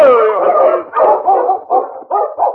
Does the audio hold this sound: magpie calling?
no